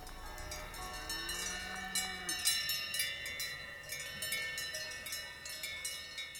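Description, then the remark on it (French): Several cowbells worn by grazing farm animals in the Doubs, France, clank and ring irregularly, their overlapping metallic tones sustaining between strikes in a continuous, moderately loud jangle with no one speaking. “Ici, beaucoup d'animaux à cloche.”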